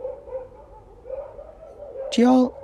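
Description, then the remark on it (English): Dogs barking, with a low, steady murmur of yips and whines building to one sharp, loud bark near the end. “These dogs are going crazy.”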